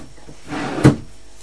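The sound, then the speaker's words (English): A drawer is opened to get pants out. It slides along with a brief rumbling scrape, then stops with a single sharp wooden knock. It is fairly loud, with no one talking. “You get some pants out of your drawer.”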